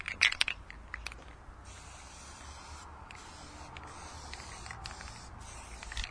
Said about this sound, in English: So what I've got to do that with is the spray adhesive. So all you do is put this thing on the ground, pretty simple, and then spray some spray adhesive down around where you're going to glue it.